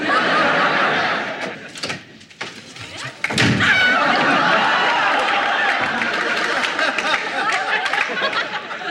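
A few sharp, solid knocks land on a door, spaced unevenly, while a crowd laughs loudly and steadily around them.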